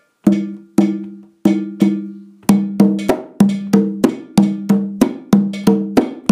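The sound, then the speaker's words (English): A metallic bell is struck in a repeating rhythmic pattern, starting with a few spaced hits and then settling into a quicker, syncopated groove of ringing, clanking strikes. No voices. “Okay, against the bell part.”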